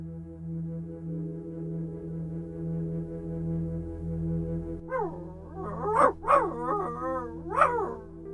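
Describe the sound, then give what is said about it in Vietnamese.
A dog howls mournfully in drawn-out, wavering cries that rise and fall, with a few sharper yelping peaks near the end, heard alone over a low steady hum. “Thêm tiếng hú kéo dài.”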